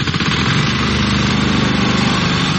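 A lawn mower runs steadily as city workers mow the grass at a memorial to Yugoslav partisans and Soviet Red Army soldiers ahead of a May 9 wreath-laying. Its small engine drones loudly and continuously with a buzzing, slightly rattling tone. No one speaks.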